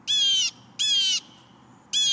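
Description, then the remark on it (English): A blue jay standing on a feeder gives loud, harsh calls as it finishes eating sunflower seeds and flies off: three raspy bursts about half a second each with short pauses between, clear with no talking. “When it's finished, it calls again and flies off.”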